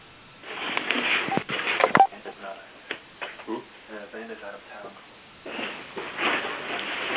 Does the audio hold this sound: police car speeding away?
no